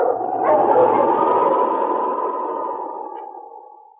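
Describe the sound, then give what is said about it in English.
A dog, Sergeant Preston's wonder dog King from Challenge of the Yukon, lets out a loud, drawn-out bark that stretches into a sustained, wavering cry lasting several seconds before gradually fading. It's alone, with no one talking. “Now back to the days of the gold rush, when Sergeant Preston and his wonder dog King battled through storm and snow to preserve law and order as they met the Challenge of the Yukon.”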